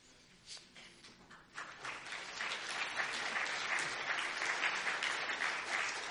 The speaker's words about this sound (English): You can clap again. I don't mind at all.